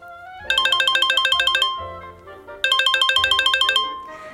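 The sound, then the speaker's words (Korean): A bright electronic mobile phone ringtone plays two bursts of rapid, repeating chime-like tones separated by a short pause, clear, for an incoming call from the listener's girlfriend, with no one talking. “금방이라도 잠들 것 같았던 여친에게 전화가 왔다.”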